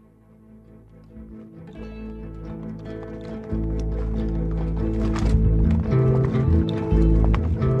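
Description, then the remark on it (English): A patrol unit horse's hooves clop along in an uneven walking rhythm beneath a steady, droning musical bed that grows louder partway through; no one speaks. “The Horse Patrol Unit.”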